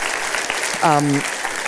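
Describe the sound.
An audience claps in a steady round of applause to thank a speaker, a dense patter of many hands throughout, with a brief voiced cheer rising over it midway.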